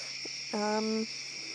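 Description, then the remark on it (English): A steady, high-pitched drone of crickets and grasshoppers chirping fills a quiet outdoor night, with a single short, deeper croaking call rising briefly in the middle. “I hope you guys liked the ambience of crickets and grasshoppers and frogs and coyotes and whatever the hell else is out here at night.”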